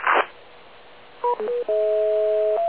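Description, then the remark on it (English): A brief burst of static, then a few quick telephone keypad tones followed by one long, steady dual-pitched tone, all fairly loud over a faint background hiss with no talking. “Anyway, I got to get back to my phone call, and I will rejoin you guys in about 15 minutes.”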